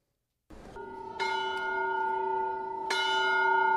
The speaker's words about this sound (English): In a country torn by a violent civil war, the sound of a church bell ringing stands in stark contrast to the sounds of gunfire and bombs that have become the norm.